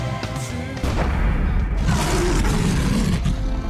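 A lion roars loudly, a deep rumbling bellow that swells after a brief quieter start and holds for several seconds with heavy low-end growl.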